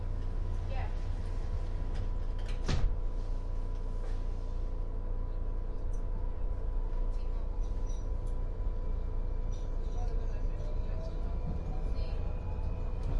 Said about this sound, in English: When boarding, please move to the center of the car. Step back, doors closing.